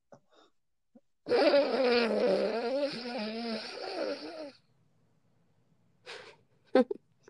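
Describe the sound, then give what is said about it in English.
A person imitates a snore with one long, loud, drawn-out nasal rumble lasting about three seconds, followed by a couple of short faint vocal sounds. “No, I was pretending to snore.”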